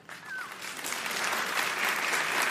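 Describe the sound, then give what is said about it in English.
A crowd breaks into sustained applause with scattered cheers and a whistle, building quickly and holding a steady, dense roar of clapping throughout. “I assume you're cheering that that's a bed.”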